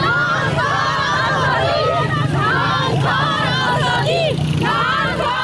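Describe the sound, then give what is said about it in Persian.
A crowd of women protesters in Kabul, Afghanistan, chants a slogan together while demanding their rights from the Taliban government. Their high voices rise and fall in repeated rhythmic phrases over a loud, steady background hum of noise. “شعاری که از یک سال بدین سو زنان معترض در کابل آن را سر می دهند.”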